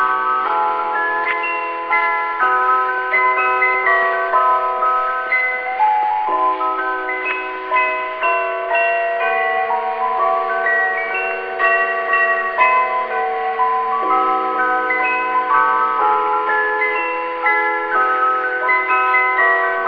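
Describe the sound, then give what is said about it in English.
A bright chime plays a Christmas melody, clear bell-like notes ringing out in a steady rhythm with a mid-to-high pitch, continuous and fairly loud with no voices. “It's a bit of a tune that I'll play on my chime that I've got with me here.”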